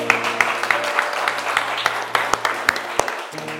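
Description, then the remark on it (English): A church audience gives the Lord a clap offering, clapping together in a steady, dense patter, with sharper individual claps popping out at intervals, over a soft sustained low musical chord. “Come on, let's give the Lord a clap offering for that.”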